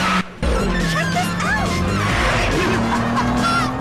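Loud engines roar steadily as several massive, extravagantly painted modified cars accelerate out of a warehouse lot through an open hatch fence, with sharp, wavering tire squeals rising and falling over the rumble.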